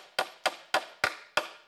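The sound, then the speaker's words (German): Six sharp hammer blows land in a steady, quick rhythm, each a loud, ringing knock that fades briefly before the next. No voices are heard. “hämmert diese ganze Schuld ans Kreuz fest.”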